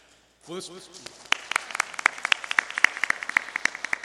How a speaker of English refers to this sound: You can tell Stephen we clap for y'all since he's not here.